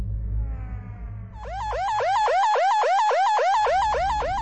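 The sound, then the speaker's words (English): A loud, shrill siren wails in rapid repeating sweeps after a brief low rumble, its piercing up-and-down cycles pulsing about three times per second. “Even screeching sirens and threats of physical violence weren't enough to speed their return to the facility.”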